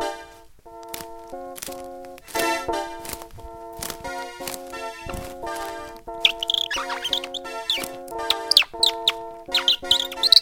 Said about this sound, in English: Whoa, you see that funky parrot? Yeah, what's a parrot doing here in the forest? Yeah, the exotic parrots of Berlin. Maybe it belongs to someone.